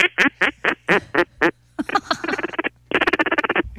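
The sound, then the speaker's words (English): A duck call blown in the morning by a duck hunter sitting on a log imitates quacking: six evenly spaced loud quacks, then a rapid chattering run of short quacks and a final fast burst. “Do you have a duck call on you? I do. Can you hit us with one?”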